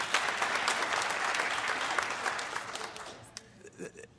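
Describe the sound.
A large audience applauds loudly with dense, sustained clapping that fades out toward the end, leaving scattered claps and a brief voice in the quieter tail.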